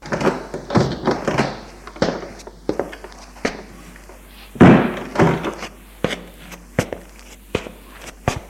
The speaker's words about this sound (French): La porte s'est ouverte sur trois hommes. trois agents en uniforme.